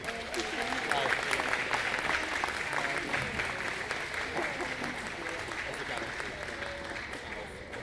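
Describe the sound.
Sustained audience applause, a dense wash of many hands clapping at a steady level for about eight seconds, with faint voices and cheers mixed in, as the audience welcomes ten-time Grammy Award-winning pianist and band leader.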